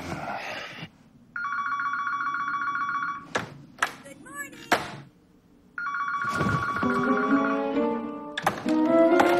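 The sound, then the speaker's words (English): A telephone rings loudly with a wake-up call at 5 a.m., in two long, steady bursts separated by a few sharp clattering thumps. Muffled vocal sounds rise beneath the second ring near the end. “He throws the phone and covers his head with a pillow.”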